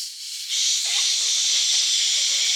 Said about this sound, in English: The point I'm making is all frequencies of sound are sampled. And what that sounds like to you is a hiss.